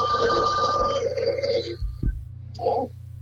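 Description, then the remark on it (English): An old telephone bell, on an old phone bought at a yard sale and repaired to work again, rings in a loud, rattling burst lasting nearly two seconds, then cuts off, followed by a brief shorter burst of ringing. No one speaks. “over here is a goofy phone that my parents found at a yard sale for her.”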